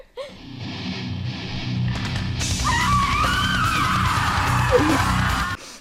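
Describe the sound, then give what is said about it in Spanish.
A woman's long, wavering scream from the 1989 film Possession, screamed by actress Isabelle Adjani, cuts through a dense, rumbling noise bed, rising and bending in pitch for a few seconds before abruptly stopping. “El grito es de la película Possession de 1989 y lo dice, o sea, lo grita Isabel Adjani, que es la actriz.”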